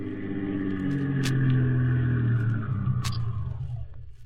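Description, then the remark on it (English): The engine of a black sedan rumbles, its low drone swelling as it pulls up in front of a small factory building on a little-frequented Brooklyn street on a summer afternoon in 1952, then idling steadily with the motor left running and a couple of faint mechanical clicks before easing off. “of a summer's day in 1952 when a black sedan pulled up in front of a small factory building on a little frequented Brooklyn street.”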